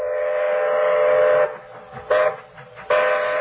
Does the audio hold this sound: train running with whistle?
yes